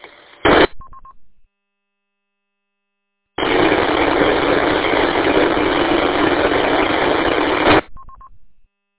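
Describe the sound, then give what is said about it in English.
A radio repeater is keyed up with no audio, giving a short static burst and a brief beep, falls silent, then carries a loud, steady hiss of static for over four seconds before another quick tone. “If that was same station, WAWJG here, but that keyed the repeater and there was no audio on that noise.”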